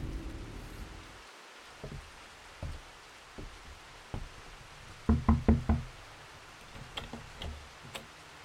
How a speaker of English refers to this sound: God, come in, come in. Out of the rain.